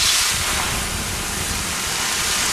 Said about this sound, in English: Hear that? The sound of water being poured on 800-degree rocks. If you were here in this sauna, you'd be so hot you wouldn't have the energy to move.